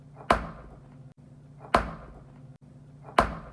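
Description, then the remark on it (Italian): The tyre of a 50cc moped in a garage, struck like a drum as an unconventional instrument: three evenly spaced, sharp thwacks, each followed by a brief springy ring and decay, over a steady low hum. No one speaks. “Io invece nel garage di Samuel ho suonato lo pneumatico del suo cinquantino.”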